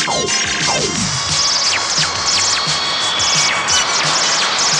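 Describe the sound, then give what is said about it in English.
A loud barrage of laser cannon fire: rapid, overlapping zaps that sweep downward in pitch, layered over a constant rumbling, crackling din with no voices. “Laser cannon.”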